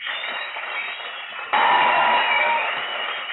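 audience applause and cheering

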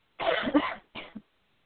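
cough

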